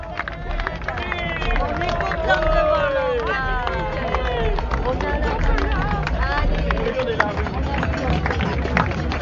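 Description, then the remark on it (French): A crowd applauds steadily as people arrive and pass through the middle of it, a dense patter of claps mixed with cheering and overlapping voices, holding at a constant loud level throughout. Enfants du désert, the organisers, mechanics and doctors stand all around applauding. “Voilà, ils passent au milieu des applaudissements, il y a Enfants du désert, toute l'organisation, les mécaniciens, les médecins, ils sont tous autour à applaudir.”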